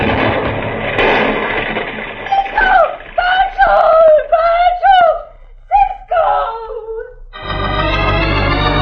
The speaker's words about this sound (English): The dynamite sure did a job in that house, Rip. Yeah, caved half of it in.